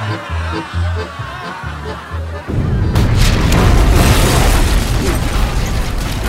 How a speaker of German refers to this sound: Die vordere Pulverkammer der Oxford zerbirst mit einem ohrenbetäubenden Knall. Die Luft erzittert. Ein riesiger Feuerball steigt auf. Zersplitternde Schiffsplanken und schreiende Menschen.